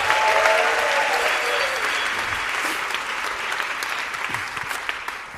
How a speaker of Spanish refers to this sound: Pues que no pare ese aplauso